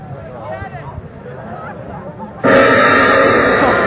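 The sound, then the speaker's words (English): A gong is struck once with a sudden, loud crash, then rings on with a bright, shimmering sustain. Before the hit, a low murmur of crowd chatter fills the background. “Does that sound like a kettle drum to you? Well, it sort of does. The gong.”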